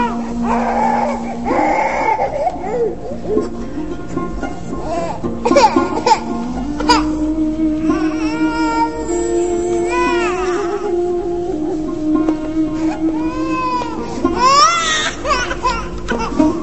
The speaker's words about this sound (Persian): چرا کسی گریه میکنه؟ هرچه میکنم آرام نمیگیرم. شاید دوست دارد به دست شما آرام شود. پس چرا آرام نشد؟ شاید این گریه و نارامی دلیل دیگری دارد.